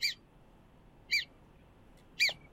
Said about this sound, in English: Oh, here's a video that says it's a groundhog screaming. Let's see what this sounds like.